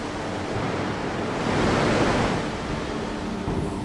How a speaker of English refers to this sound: The material must undergo a mill scale cleansing before rolling. In order to cleanse the surface, water is sprayed at high pressure, 160 bar.